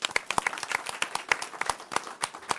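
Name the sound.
round of applause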